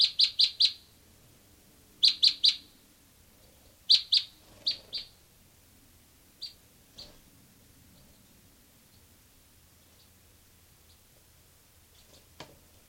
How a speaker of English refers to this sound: So recording here, bird 385.